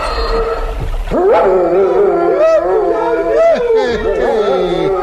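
A dog barks in loud, drawn-out, whining yelps that rise and fall almost without pause for about five seconds, with a sharp burst of noise near the start.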